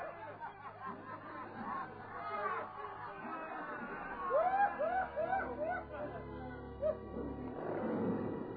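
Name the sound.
hungry lions roaring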